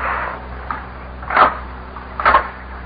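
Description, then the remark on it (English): Two firm knocks on door number 24, spaced about a second apart, clear over a low background hum, with no voices. “A knock on the door.”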